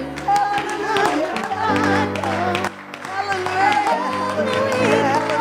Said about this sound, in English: Can we stand at this time and give God a hand clap of praise?